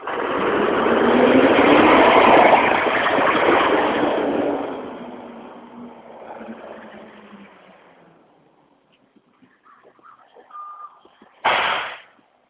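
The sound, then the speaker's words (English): A loud garbage truck in the woods of Maine rumbles with a roaring engine, then fades away over several seconds, leaving near-quiet before a short sharp burst of noise at the end. “Even in the woods of Maine, there's garbage trucks.”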